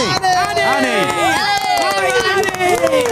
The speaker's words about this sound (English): Oh, she gets a big cheer.